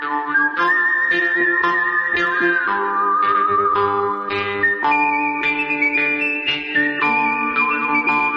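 whistled melody

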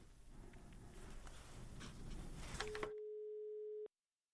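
telephone line tone

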